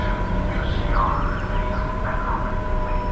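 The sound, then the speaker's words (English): Downtown bus terminal ambience at the transfer point in downtown Riverside, California: a steady, loud low rumble of idling bus engines with faint whining tones that rise and fall twice over the drone, and no clear voices. “And I just decided to make a boo, recording some downtown terminal bus sounds.”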